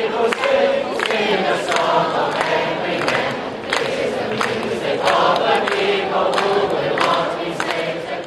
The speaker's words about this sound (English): Hundreds of pro-democracy activists are holding a rally at Hong Kong's airport at the start of another weekend of planned protests.